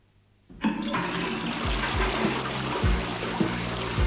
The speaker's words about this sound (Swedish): Bajs spolas ut i havet.